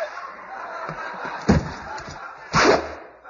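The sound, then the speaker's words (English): A voice imitates a gunshot made by pointing a finger at one's own head: a short, sharp burst, then a louder, fuller vocal bang a second later, both standing out abruptly over a steady background hiss. “He pointed his finger at his head and went bang.”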